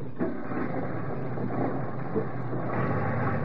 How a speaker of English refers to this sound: This truck of mine is a four-wheel drive vehicle, and I know the valley like the back of my hand.